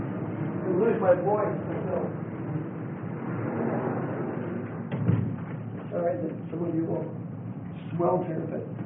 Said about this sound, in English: I'm going to have to close this door.